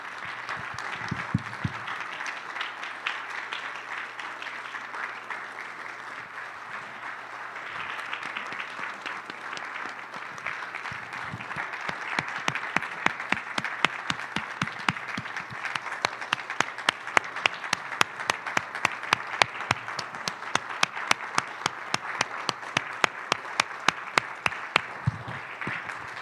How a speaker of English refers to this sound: Can we just do a clap offering for Jesus? Can we welcome him in this space?